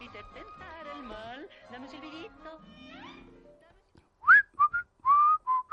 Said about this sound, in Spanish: Si yo te silbo esta melodía, dime si te suena.